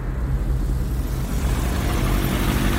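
A motorcycle engine idles steadily, a low, even rumble with a slight throb that holds for a few seconds, loud, with no voices.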